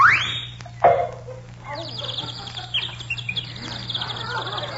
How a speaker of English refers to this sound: Do you hear that little bird singing